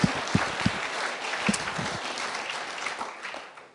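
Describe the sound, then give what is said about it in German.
A crowd claps together as applause given to Jesus after testimonies, a dense patter of many hands that starts strong and gradually fades over a few seconds, with a few louder individual claps standing out early on. “Lass uns mal Jesus einfach einen Beifall geben.”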